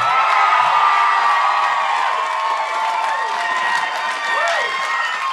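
A crowd at the New Yorker Festival at the Skyline Drive-In on the Brooklyn waterfront cheers and applauds loudly and steadily, with whoops and shouts rising over a dense wash of clapping for the full five seconds.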